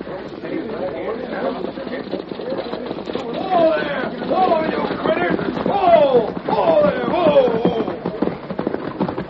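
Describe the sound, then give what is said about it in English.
Horses and a stagecoach arrive at a stop where the horses are to be changed, approaching with a steady rumble of hoofbeats and rolling wheels, growing louder midway, while short rising calls or whinny-like cries repeat over the clatter. “Here's the stage now, Kemosabe.”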